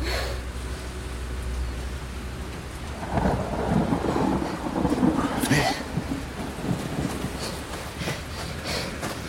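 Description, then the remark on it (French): Steady rain hisses throughout, and a deep rumble of thunder rolls in a few seconds in, swelling and lingering beneath the downpour before easing off. “C'est la première fois que je vois quelqu'un apprécier à ce point la pluie.”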